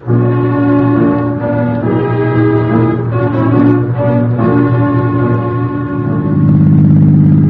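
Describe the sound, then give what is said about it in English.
A car engine drones steadily and loudly as the car drives off, its humming note shifting and thickening toward the end as it picks up. No one speaks. “Outside, we ease into her car and drive off.”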